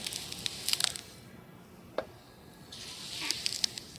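A knife slices scallions horizontally with slow, smooth strokes rather than chopping, giving faint crisp crackles in two small clusters with one sharper click between them; quiet overall and no one speaks.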